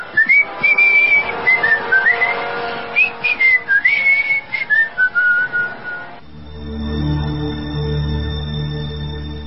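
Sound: man whistling a tune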